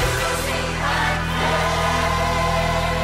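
Steady, rapid hand clapping fills the whole clip, a dense unbroken patter over a low sustained musical drone, with no one speaking.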